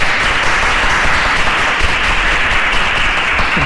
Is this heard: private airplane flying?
no